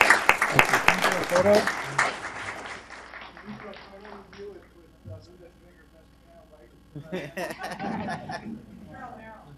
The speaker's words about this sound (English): Great. How about a round of applause? Let's hear it.